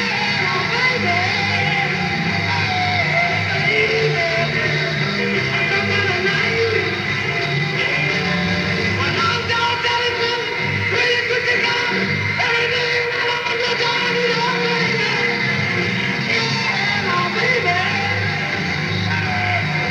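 A raw, distorted live rock concert recording, loud and dense throughout, with a crowd yelling and screaming over driving band music for the full stretch.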